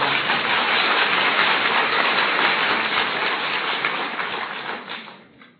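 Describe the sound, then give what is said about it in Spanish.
An audience at a poetry reading applauds in a dense, steady wash of clapping that holds strong for several seconds, then thins out and fades away at the end. No one speaks. “Pero que con mucho gusto lo dedico a las que me aplaudieron.”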